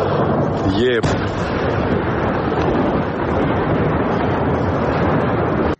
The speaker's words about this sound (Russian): Это станция Новороссийск, железнодорожная станция, тут бочки. Только что взорвали одну дроном.